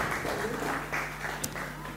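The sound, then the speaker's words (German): Audience applause for two guests who had just spoken, a dense and steady wash of many hands clapping that holds at an even, moderate level for the whole two seconds, with a faint low hum underneath. “Gebt denen nochmal einen Applaus, den beiden.”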